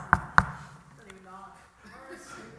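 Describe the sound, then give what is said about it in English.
Two sharp knocks land in quick succession, like someone rapping on a door, followed by a voice talking quietly. “And then it comes knocking at your door.”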